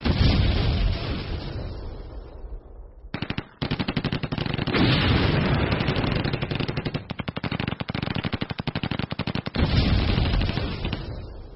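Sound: distant gunfire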